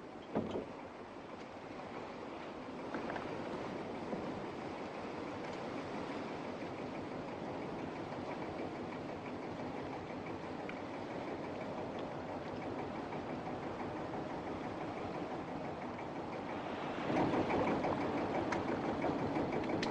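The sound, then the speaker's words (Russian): A boat engine rumbles steadily as a boat arrives, a broad continuous drone that swells a little louder near the end, with no voices. “Лодка пришла.”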